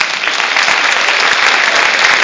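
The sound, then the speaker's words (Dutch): An audience in a church claps steadily during a service, a dense, continuous wash of many hands applauding at an even, loud level throughout, with no voices standing out. “Groot applaus, het is wel verdiend.”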